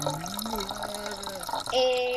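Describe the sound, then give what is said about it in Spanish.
Liquid pours in a steady stream into a container, its hollow tone slowly rising as it fills, then gushes louder near the end, sounding like someone urinating. No voices. “Me hago pis en serio, Sí, podemos estar hablando que si acá de repente te entra un ataque de risa, de repente podemos escuchar.”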